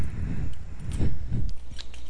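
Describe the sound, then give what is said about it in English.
A few light metallic clinks and jingles from a belt buckle as a belt is taken off, scattered over about two seconds amid rustling and shuffling, with no one speaking. “Get rid of this belt. There goes that.”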